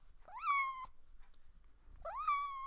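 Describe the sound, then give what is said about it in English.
A cat named Honeybee meows twice, each call rising then holding steady in a clear tone, with a short quiet gap between them and no talking. “How about another little honeybee meow?”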